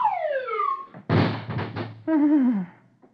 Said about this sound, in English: First picture, bottom row. Dithers' door opens, and out sails Dagwood.